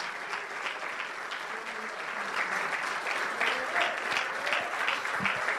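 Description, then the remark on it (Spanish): An audience claps steadily in sustained applause for Christ, the King of Kings and Lord of Lords, a dense, even wash of hand claps that holds at a fairly loud level throughout, with faint voices mixed in. “Es más, démele un aplauso a Rey de Reyes y Señor de Señores.”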